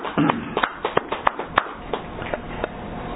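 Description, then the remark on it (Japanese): Hands clap to celebrate the founder's 116th birthday, a dozen or so sharp claps in an uneven, loose rhythm over a steady background hiss, with no voices. “今日は初代の116回目の誕生日ですので拍手でお祝いをさせていただきます。”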